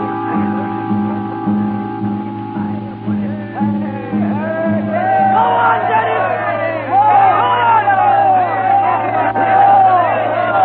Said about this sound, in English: He's speaking tonight. A meeting in the square. He's speaking to the crowd.